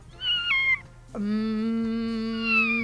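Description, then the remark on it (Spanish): A cat named Ramón meows twice: a short, high-pitched mew followed after a brief pause by a longer, drawn-out, lower yowl that holds steady before trailing off. “Ramón es el gato.”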